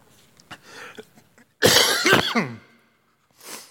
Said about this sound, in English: That cough has been going around the house. I think it's getting me.